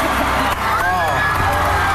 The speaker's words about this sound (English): And everybody is applauding, and they're starting the wave, right. And all the John 3:16 signs come out.